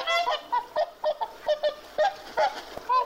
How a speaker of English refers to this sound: Or is it fact four, St. Hugh of Lincoln employed an aggressively violent guard swan as his bodyguard? The swan would honk at anyone who came near Hugh of Lincoln, using phrases such as, Chris?